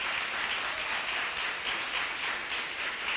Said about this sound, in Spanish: Pues vamos a recibir con un fuerte aplauso a los niños y niñas del Colegio Virgen del Carmen.